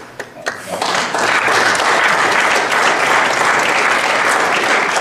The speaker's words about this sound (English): In a video from a March 2013 Cumberland County Lincoln Day event, a Republican audience applauded the notion.